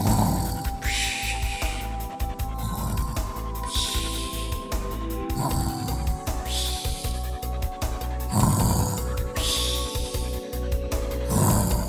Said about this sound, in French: Au bout d'un quart d'heure, le dragon ronflait.